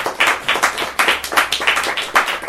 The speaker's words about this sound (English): I just wanted to, start with a round of applause and appreciation for coming so far to be here.